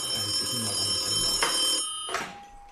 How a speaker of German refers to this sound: Hä, warum klingelt das Telefon? Kann eigentlich nur Tim Wiese sein. Der ruft, ja, der ruft irgendwie, der ruft hier gerne mal an.